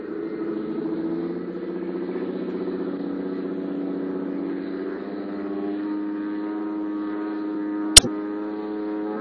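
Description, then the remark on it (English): A small propeller plane's engine drones steadily and loud, its pitch climbing slightly as it revs up for takeoff, with a sharp brief click near the end; no one speaks. “Running like a sewing machine.”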